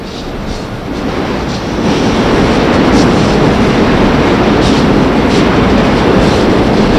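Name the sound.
passing commuter train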